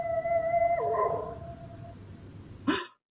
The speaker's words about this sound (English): What's that? It's the dog again. That confounded dog is tied up around here somewhere.